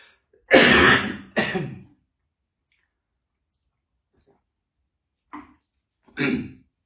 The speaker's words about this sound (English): Excuse me, for my dry cough, I sound a bit like, you know, when I cough like that